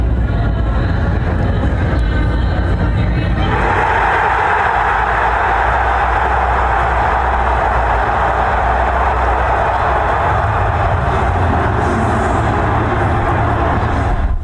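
A large crowd in downtown Detroit cheering after the Lions moved up to draft Arnold, the cornerback out of Alabama, a steady rumbling roar that swells sharply a few seconds in and stays loud and continuous to the end, with no clear voices standing out.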